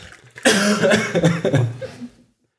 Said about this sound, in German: Ich muss mal husten. Dann huste.